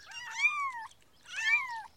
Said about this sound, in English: Look! Three small cats! How sweet!